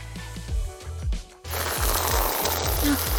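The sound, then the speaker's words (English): A silver whipped cream can rattles in a quick, rhythmic shake for about a second and a half, then bursts into a loud, steady spray hiss as whipped cream is dispensed, continuous. “This is whipped cream.”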